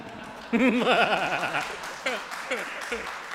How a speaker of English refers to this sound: Didn't know that would get applause. Okay, I didn't know that would get applause. That's good.